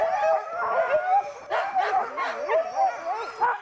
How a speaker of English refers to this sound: They harness the dogs and hook them up and drive a team.